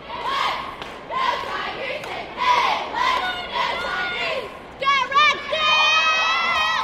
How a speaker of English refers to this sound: Earlier this month, more than 2,000 high school cheerleaders from across the state jumped, flipped, danced, and shouted to the rafters at the Raleigh Convention Center.